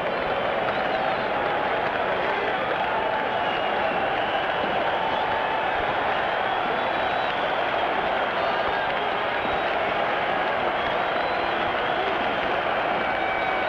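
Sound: stadium crowd cheering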